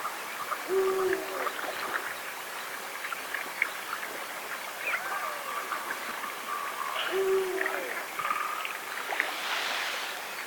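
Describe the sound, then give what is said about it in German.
A Eurasian eagle-owl gives two deep, short hoots several seconds apart, set against a steady background of splashing water and faint chirping from other birds. “Wie klingt ein Uhu? Das hören wir uns jetzt mal an.”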